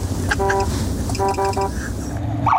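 A police officer's pickup truck siren, used on bear patrol around a village on the Hudson Bay coast in Canada, sounds a steady mid-pitched electronic tone, then three quick repeated bursts, all loud over a continuous low engine rumble.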